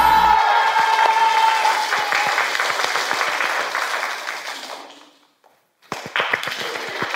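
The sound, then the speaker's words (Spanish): Loud, dense applause from a show's studio audience, steady clapping that fades out near the end, breaks off to a brief silence, then a few sharp claps start up again. “Lo que deberías estar haciendo en vez de ver este programa o aplaudiendo aquí.”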